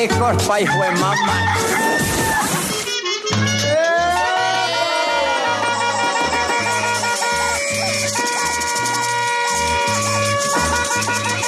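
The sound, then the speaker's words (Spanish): A rooster's crowing, the Radio Activa station's rooster jingle, rings out in loud, drawn-out calls over a steady pulsing low beat, with clucking mixed into a busy, continuous jingle and no talking. “Lo peor y lo menos peor del 2022 con el gallo de Radio Activa.”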